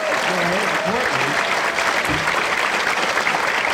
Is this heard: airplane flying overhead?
no